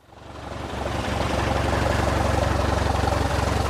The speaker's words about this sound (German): Ein kleines Sportflugzeug mit einem 6-Zylinder-Dieselmotor rollt auf eine Parkposition des Flughafens Kiel-Holtenau.